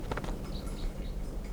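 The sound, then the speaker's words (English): A few faint, short calls of a wild bird down the hill, thin and high over a steady low background rumble, with no voices. “There's a wild bird down the hill.”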